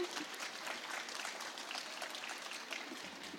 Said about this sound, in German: einen ganz großen Applaus nochmal für Mara Wolf